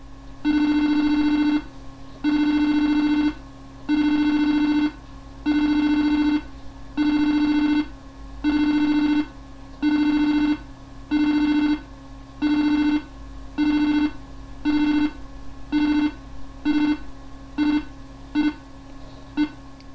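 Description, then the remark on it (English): A long series of loud, steady electronic beeps from a home server's beep command signalling backup completion, at a mid pitch with a buzzy tone, evenly spaced at first, then becoming shorter and quicker toward the end. No one speaks. “Completion of the backup was signalled by six loud beeps.”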